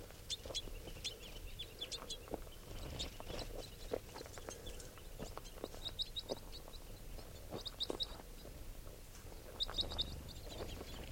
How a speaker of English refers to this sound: There are probably about 10 crossbills here. Some red, two red ones, and the remainder are females and juveniles.